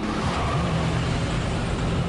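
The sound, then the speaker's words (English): A car engine revs up and accelerates on a road, its low hum climbing in pitch beneath a steady wash of road and wind noise, loud throughout. “Trey returns the map and accelerates ahead.”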